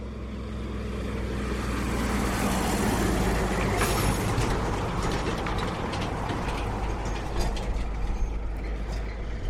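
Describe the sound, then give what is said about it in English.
A three-carriage road train carrying ore roars past on the dirt beside a single-lane tarmac road, a loud steady rumble with rattling, clanking mechanical noise that swells slightly midway, no voices. “we're about to be passed by a road train with some ore.”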